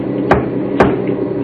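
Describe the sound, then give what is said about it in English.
Sharp, heavy knocks on the back of a truck's metal cab as a signal to the crew in the back, two loud raps about half a second apart and then a faint third, over a steady low engine rumble. “Three knocks on the back of the cab.”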